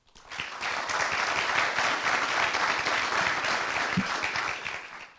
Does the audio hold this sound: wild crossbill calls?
no